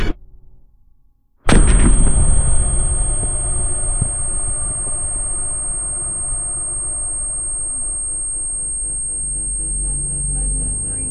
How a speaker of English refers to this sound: Exposure to vacuum built up frost on the canister. Opening panel must have cooled it radically. Overwhelming pressure, explosive. To the glaze? Not insulated enough. Brace. Expecting localized explosion.